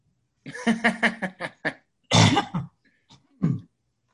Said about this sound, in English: And I'm going to have to clear my throat. I've got my morning cough here. Good heavens.